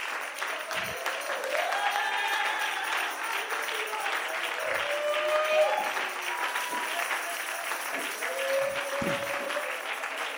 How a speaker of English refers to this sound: You know who ought to be clapping right now? Somebody that's messed up.